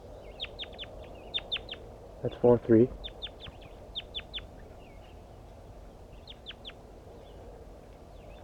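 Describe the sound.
Soft, high-pitched bird communication calls come in quick clusters of two to four notes, repeating steadily throughout, with a person speaking briefly near the middle.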